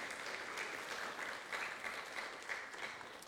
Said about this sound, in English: Good on our Bible readers, huh? Let's give them a round of applause just to say thank you.